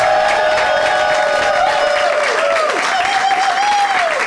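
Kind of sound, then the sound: crowd, audience clapping and cheering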